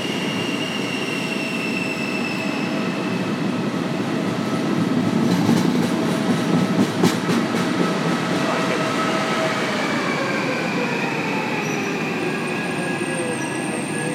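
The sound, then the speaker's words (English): A long train rumbles steadily at a station platform, its wheels giving off sustained high squeals and whines, with a burst of clattering clicks in the middle and shifting tones near the end. No one speaks. “Because if we're at the opposite end of a train of this length, we're in trouble.”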